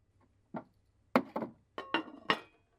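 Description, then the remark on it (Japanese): A knife cuts tofu in about six sharp taps against a cutting board, coming in an uneven rhythm. Some strikes have a brief ringing edge, and no one speaks. “これも、切る。”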